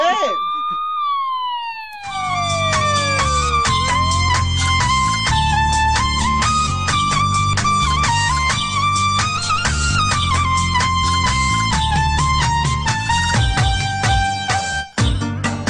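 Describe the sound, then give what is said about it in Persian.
The siren of a police car following behind opens with rising and falling wails, then gives way to a loud, dense wash of sustained tones that carries on steadily to the end. “پلیس پشت شما خدا نمیاید.”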